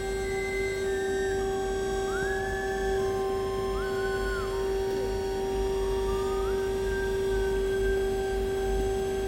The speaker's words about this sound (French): C'est ça les sirènes.